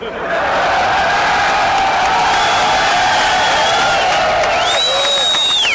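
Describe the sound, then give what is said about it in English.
A large crowd of rescue workers at Ground Zero, after 9/11, cheers and roars continuously during George Bush's visit with a bullhorn. Many voices shout at once in a loud, sustained wall of sound, with a few higher yells and whoops rising near the end. “Here's the sound of George Bush when he was visiting rescue workers at Ground Zero, famously with the bullhorn, speaking to the crowd.”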